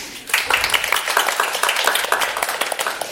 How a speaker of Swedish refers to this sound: idag är vi på Forum för levande historia i Stockholm och spelar in för publik. Välkommen, en applåd för publiken.